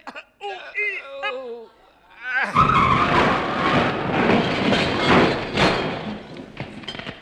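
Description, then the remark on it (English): A voice makes strained, effortful groans and grunts for a couple of seconds while lifting a heavy load, a lorry, to throw into a deep smelting pit. A loud, sustained burst of rumbling, skidding vehicle noise then takes over. “Right, I'll make the straining noises.”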